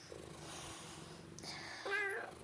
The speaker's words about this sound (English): Ladies and gentlemen, I regret to inform you that the preceding program has been interrupted by a cat.